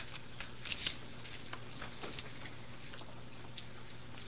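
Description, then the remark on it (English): Soft papery rustling and a few crisp crackles as sheets of paper are handed out during a meeting, over a steady low hum with no talking. “Mr. Chairman, with your permission, I would hand out just a quick piece of paper here.”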